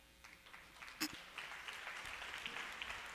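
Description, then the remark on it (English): A crowd claps steadily, a dense patter of many hands with one sharper clap standing out early on, building slightly in loudness and continuing throughout. “You clap for things.”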